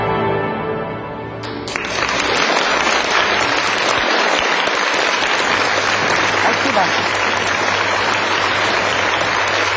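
A crowd breaks into sustained applause, many hands clapping in a dense, steady roar that stays loud throughout, with a few harmonic tones fading out at the very start.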